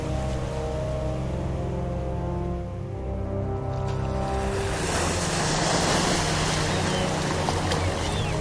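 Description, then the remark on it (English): Waves gently lap and wash against a beach, the broad hiss of water swelling halfway through and staying steady, with a low humming drone underneath at the start. “The head of Orpheus is washed up onto a beach. The eyes are closed. Waves gently lap at the torn and severed neck.”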